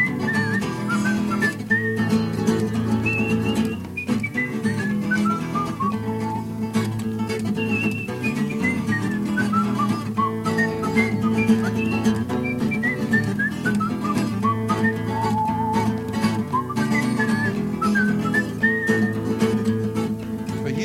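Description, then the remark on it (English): A person whistles a flowing melody for about twenty seconds, the bright tone gliding up and down in steady phrases over a low, sustained backing hum. No one speaks. “like to whistle as my voice fades on me.”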